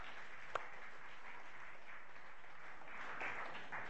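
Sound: round of applause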